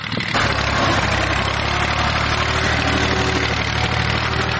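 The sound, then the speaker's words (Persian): A tractor engine runs steadily with a loud, continuous rumbling drone, accompanied by crackling and snapping as poppy plants are crushed and torn beneath it while it destroys a poppy field in Washir district, Helmand province, Afghanistan. “در ولسوالی واشهر ولایت هلمند افراد مسلح طالبان در نزدیکی یک زمین کشت کوکنار ساده و تماشا می کنند که چگونه تراکتور کشت کوکنار را تخریب می کند.”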